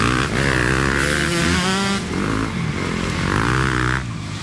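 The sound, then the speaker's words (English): Dirt bike engines rev loudly and continuously, their pitch rising and falling in sweeping waves as several bikes throttle up while riding through the lamp-lit streets of Manhattan, weaving between city traffic, with no one talking. “riding dirt bikes through the lamp-lit streets of Manhattan, weaving between the city traffic.”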